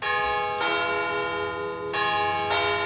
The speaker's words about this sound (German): So tönt es zu Küblis die ganze Nacht. Kirchenglocken schlönen alle Viertelstunde, einmal am Viertel ab, am halben zweimal, dann dreimal und bevor es die Stunde schlägt, immer viermal.